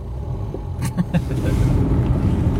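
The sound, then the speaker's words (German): A low, steady engine rumble from inside a car driving at walking pace, with a few brief clicks and knocks near the start and the hum growing slightly fuller toward the end. “Und um dem Motto aber treu zu bleiben unseres Podcasts, was so ein bisschen zum Leid der anderen Verkehrsteilnehmerinnen und Verkehrsteilnehmer ist, wir fahren Schritttempo.”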